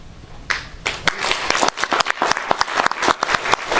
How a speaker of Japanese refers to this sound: 皆さんの拍手で同意を得たということで